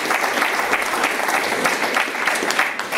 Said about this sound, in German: Ein Applaus bitte.